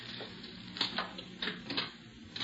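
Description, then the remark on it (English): Metallic jingling and scraping as keys are fumbled into the lock of a car's rear compartment, with several sharp clicks at an uneven pace and no voices. “Now, which one of these keys unlocks this?”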